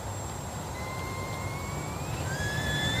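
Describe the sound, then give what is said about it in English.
A tea kettle begins to whistle over a steady rush of steam, its thin tone wavering and creeping upward in pitch, with a second, higher whistle joining toward the end. “It's a tea kettle fart.”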